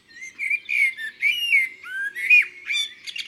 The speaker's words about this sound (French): Regarde, tonton, le merle. Il est dans le cerisier tout en haut. Oui, je le connais bien. C'est Pirouite.